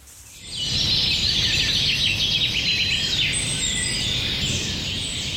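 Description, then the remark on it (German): A busy chorus of songbirds chirps and twitters continuously in spring, many overlapping high calls, steady and fairly loud over a low outdoor rumble, with no one speaking. “Der Frühling ist angebrochen und damit auch die Zeit der Singvögel. Besonders häufig zwitschern die Männchen, um ihr Revier abzugrenzen und natürlich um Weibchen zu umwerben.”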